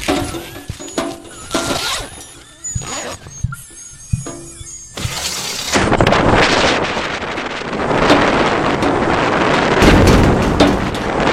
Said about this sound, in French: sur la banquise, je suis blindé à l'intérieur étant donné qu'il y a une tempête australe qui sévit dehors. Là il fait moins 10 degrés et 70 nœuds de vent ouest.